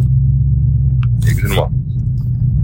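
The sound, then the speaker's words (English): A Chevrolet Suburban's 5.7 engine idles with a loud, steady, deep rumble throughout, and a brief voice briefly rises over it partway through. “Oh, he's in the Suburban, so it's got to be the 5.7.”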